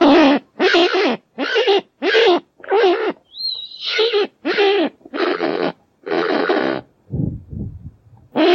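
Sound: kakapo parrot call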